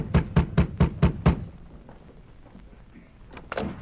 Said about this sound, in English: The sheriff rapped on the door.